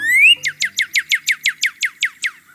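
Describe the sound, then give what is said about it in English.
A male northern cardinal perched atop a backyard tree sings loud, clear whistled notes: a rising slurred whistle followed by a rapid series of about eleven identical downward-sweeping chips, alone. “He sings a song of pure whistled tones.”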